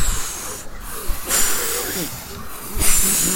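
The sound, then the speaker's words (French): A voice imitates a wolf blowing hard: several long, breathy whooshing gusts pushed out in repeated bursts, loud, with brief pauses between breaths. “Et je vais souffler que ta maison s'envolera. Et le loup souffle.”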